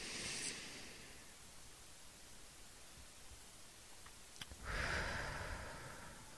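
A slow, deep breath drawn in and let out during a guided breathing exercise, airy, with a louder breathy rush near the end over a faint steady hiss.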